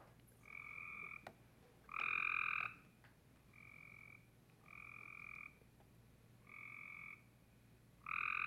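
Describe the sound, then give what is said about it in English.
Cope's gray tree frogs trilling in a series of harsh, rapid-pulsed calls, each lasting about a second, repeating steadily with short gaps; some calls louder than others, no voices. “Gray tree frogs.”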